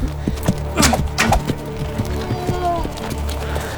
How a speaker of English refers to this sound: A wounded riderless horse galloping wildly ahead, spreading alarm.